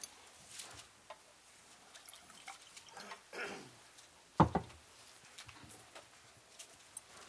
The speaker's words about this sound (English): I got to get some water here.